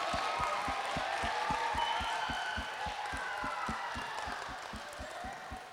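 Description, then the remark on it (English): A group claps and cheers steadily for several seconds for everybody who shared their dreams, with a fast, regular thumping beat running underneath the applause the whole time. “All right, let's give everybody who shared their dreams a round of applause.”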